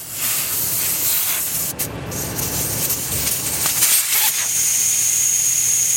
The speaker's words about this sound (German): lässt Luft aus den Reifen seines Geländewagens. Weniger Druck, mehr Auflagefläche. Das ist wichtig bei einer Fahrt durch die Wüste. Sonst sinkt das Auto schneller ein.